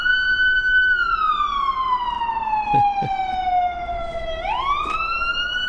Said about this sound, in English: we got to wait for the fire truck to go by